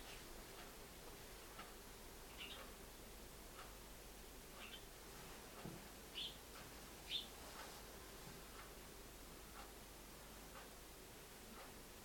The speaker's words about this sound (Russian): Забавная птичка. Мне показалось, что какая-то трель немножко другая. Нет, сейчас уже говорит чирик. Весну зовет.